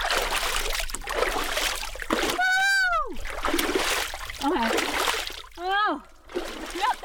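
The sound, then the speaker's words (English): Ice water from a cold plunge tub is splashed onto face and hands in several messy bursts, with sharp rising vocal gasps and yelps from the cold cutting in between the splashes. “look at the cold plunge tub with trepidation and decide to try just a little splash of ice water on our face and hands.”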